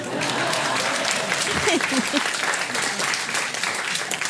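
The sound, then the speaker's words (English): Steady applause from a group of people fills the whole stretch, a dense crackle of many hands clapping at an even level, with a few brief voice fragments surfacing partway through. “Usually people clap.”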